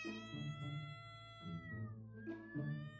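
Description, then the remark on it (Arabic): A pet cat named Mozart meows continuously, a drawn-out, wavering cry with a few rising and falling inflections, loud and alone with no talking. “المتهم واضح وصريح، المتهم قطي المفضل.”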